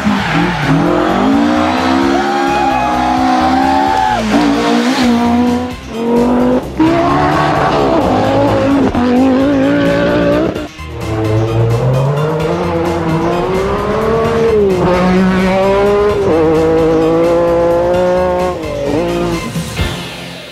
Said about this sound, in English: Car sounds?